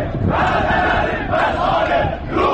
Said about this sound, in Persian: دست کم 20 روز پیش عده‌ای از شهروندان تبریز در اعتراض به وضعیت دریاچه ارومیه در خیابان‌ها اعتراض کردند و شعار دادند سدها را بشکنید و ارومیه را پرآب کنید. و از رئیس جمهور پرسیدند روحانی وعده ها چه شد؟